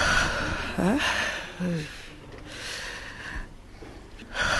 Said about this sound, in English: Her breathing labored and clearly traumatized. This older woman, who did not want her identity revealed, was among a number who were publicly raped during the violence.